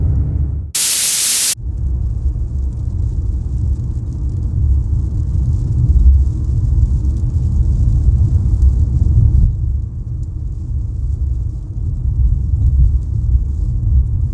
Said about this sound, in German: Wenn man die Augen zumacht, dann klingt der auf die Frontscheibe prasselnde Regen so ein bisschen wie das Knistern einer Schallplatte. Sollte man aber nicht machen, während man fährt, also das mit den Augen.